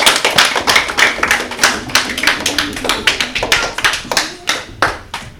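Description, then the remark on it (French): A group of children clapping steadily for the CE1 class, who scored 33 points, at the end of a big game, a dense run of sharp, uneven claps that keeps up its loud, lively pace with no voices over it. “Les CE1 ont remporté 33 points en tout. Applaudissez-les.”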